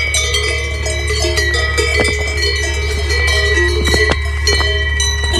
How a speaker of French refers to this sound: Mais non, j'ai choisi de vous parler des cloches des vaches, puisque ce doux son m'a suivi la quasi-totalité des 8 jours passés à pédaler dans les alpages.